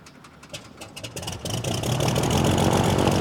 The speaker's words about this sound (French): Je vais essayer de faire démarrer mon moteur, ce coup-ci, hein.